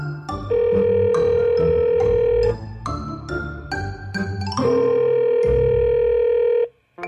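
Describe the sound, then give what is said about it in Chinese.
A telephone ringback tone sounds twice, each a steady, loud two-second buzz separated by a pause, over soft background music, with no one speaking, as a call is placed to an architect. “没错，我来打电话给她。”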